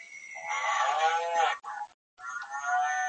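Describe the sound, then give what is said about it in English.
Cows passing by moo, long drawn-out harmonic calls overlapping loudly for about a second and a half, then a brief gap before another lowing moo follows. “we'll just wait for the cows to go by.”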